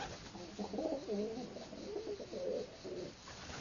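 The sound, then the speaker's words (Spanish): Several pigeons coo in overlapping, soft throaty phrases, echoing inside the stone walls of a well, with a faint constant hiss underneath. “De hecho, las paredes de los pozos suelen convertirse en pequeñas ciudades de aves gregarias como palomas, gorriones o estorninos.”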